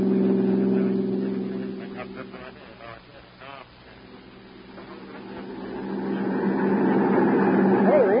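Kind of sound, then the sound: vehicle, car engine accelerating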